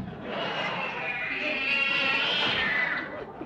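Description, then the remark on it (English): A single long, drawn-out meow from a cat named Mittens, fairly loud, holding for about three seconds with a slightly wavering, whiny pitch before trailing off. “And so to my cat Mittens, I leave my entire vast boot to the head.”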